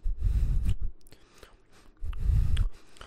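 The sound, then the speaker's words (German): Wet, crunchy chewing sounds come in two louder bursts separated by a quieter stretch of smacking and small mouth noises, with no talking. “Das Schlimme ist, das macht er ja gerade schon nebenbei. Er isst und macht.”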